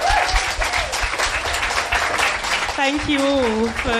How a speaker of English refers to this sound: Thank you, guys. Can we have a round of applause for our speakers?